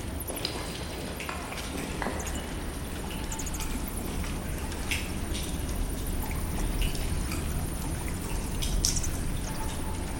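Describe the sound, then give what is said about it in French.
Water drips from stalactites in the Sibyl's cave (antre de la Sibylle) in scattered, irregular plinks over a steady, hissing wash of running water. No one speaks. “Alors là, on est en train de traverser effectivement cet antre de la Sibylle et peut-être qu'on entend derrière moi des bruissements, des bruits de chauve-souris, des gouttes de stalactites, des gouttes d'eau qui tombent de stalactites.”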